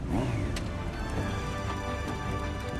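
A classic muscle car's engine rumbles with a deep, steady idle and a brief rev near the start, plus a couple of sharp clicks, as a family arrives in it and parks in front of a house. No one speaks.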